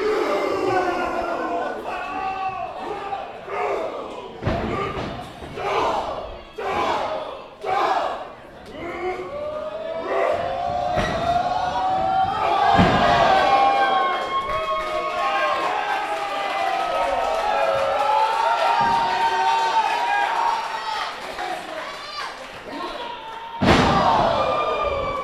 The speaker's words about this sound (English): Crowd chanting, you fucked up.